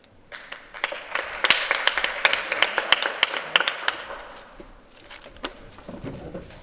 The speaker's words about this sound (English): Okay, before we start, one more round of applause for our beautiful panel.